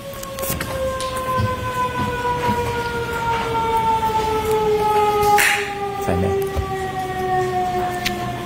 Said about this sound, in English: I was just waiting for the siren, Your Honor.